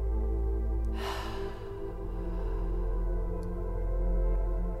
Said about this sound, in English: Take a deep breath in through your nose, filling your lungs completely. Hold it for a moment, then slowly exhale through your mouth.